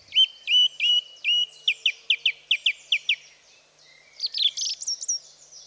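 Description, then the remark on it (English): A song thrush sings clearly on its own, repeating each bright whistled phrase several times before switching to a new one, ending in a quicker, more intricate flourish. “The song thrush is a small, familiar songbird commonly found in parks, gardens, woodland and scrub.”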